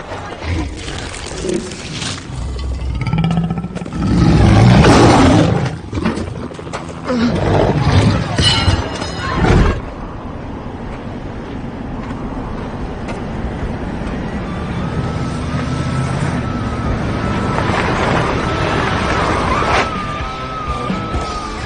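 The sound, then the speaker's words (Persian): A car engine runs as the vehicle drives, giving a steady rumble with louder, rougher bursts in the first ten seconds before settling into an even drone. “اون ماشینه.”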